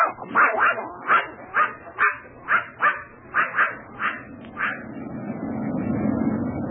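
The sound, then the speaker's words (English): A dog named Corky lets out a quick, steady run of about a dozen high, whiny yips and barks with whimpering tones, then falls quiet as a low rumbling noise takes over. “If I had a puppy, I'd have more consideration for his dinner.”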